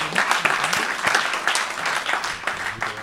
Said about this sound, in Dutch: Dat was dat. Ja, applaus.